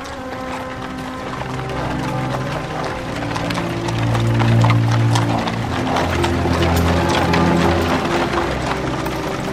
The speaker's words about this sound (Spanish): Un sacerdote camina ante el coche de caballos fúnebre. Tras él, la familia encabeza el cortejo que recorre una calle asfaltada, flanqueada por grandes árboles.